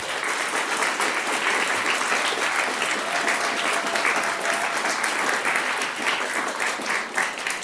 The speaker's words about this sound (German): Großen Applaus!